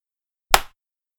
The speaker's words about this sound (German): Machst du Klatsch, ja. Klatsch.